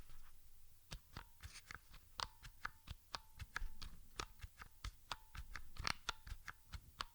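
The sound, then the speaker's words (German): Keys on a braille keyboard being pressed while typing, at least two keys at a time at an even pace, in quick, irregular succession, a steady stream of sharp plastic clicks and taps, some landing in near-simultaneous pairs, with no one talking. “suche einfach mal einen möglichst gleichen Abstand einzuhalten und drücke immer mindestens zwei Tasten gleichzeitig, denn wenn man drei tippen möchte, braucht man für die allermeisten Buchstaben ja auch mindestens zwei, häufig sogar noch mehr Tasten.”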